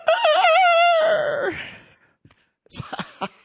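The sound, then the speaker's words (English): A single loud rooster crow rings out, a wavering call that stretches into a long falling note, followed by a pause and some brief clattering noises. “And the rooster crowed.”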